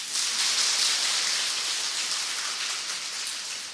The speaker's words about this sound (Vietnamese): Cho một tràng pháo tay đó.